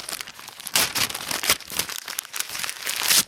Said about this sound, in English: Every person's pile is in a different area and has different wrapping paper, which makes it easy to figure out which pile belongs to who. So it takes no time at all before we start unwrapping gifts.